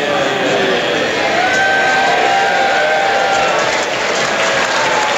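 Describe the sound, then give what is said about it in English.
Sustained applause from a large crowd of new MPs in Parliament during one of Tony Blair's first appearances as Prime Minister, steady clapping mixed with murmuring voices and a few cheers, loud and continuous throughout. “I'm afraid you simply do not clap in Parliament.”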